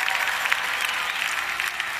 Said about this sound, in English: I'm clapping for you.